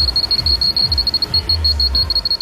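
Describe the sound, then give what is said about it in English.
A high-pitched electronic beep from a machine that has been beeping incessantly for a week and a half repeats rapidly and without pause, fairly loud, over a low mechanical rumble of working machinery. No one speaks. “Incessantly. Just this high-pitched beeping noise.”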